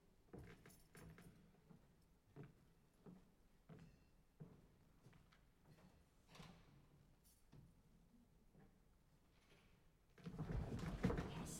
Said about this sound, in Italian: Mazzo delle chiavi, era a cavallo. Dite, non è fra quelle la chiave che apre quella gelosia? Sì, certo, è la più nuova.